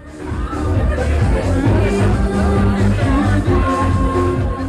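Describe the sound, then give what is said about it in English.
A large crowd roars back together in unison, shouting "Burn it down" as one in answer to a drag queen's question about a planned stadium, a loud, dense wall of massed voices sustained for several seconds. “the crowd roared back, "Burn it down."”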